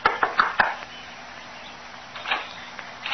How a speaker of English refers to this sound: Within the hour, she was knocking at the door of a small shack on the outskirts of the village.